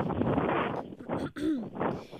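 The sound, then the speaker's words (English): Wind gusts buffet the microphone in a steady, rough rumble that briefly drops out near the middle, with a faint snatch of voice caught in the noise. “It's windy. I'm going to get in my car so that I can avoid any and all breeze.”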